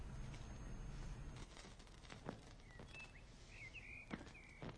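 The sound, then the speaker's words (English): A few faint, thin bird whistles chirp just before dawn, with mist rolling over the land, scattered over soft rustling and occasional light taps in an otherwise quiet outdoor setting. “She turns her head at the birdsong, listening.”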